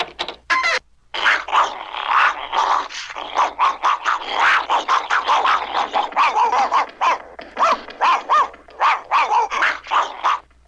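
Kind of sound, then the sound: animal, dog barking and growling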